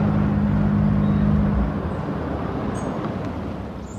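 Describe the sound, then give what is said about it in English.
A car engine hums steadily, then its low drone drops away as the car slows and settles toward a stop, leaving a softer rumble of road noise. “I'd better stop the car.”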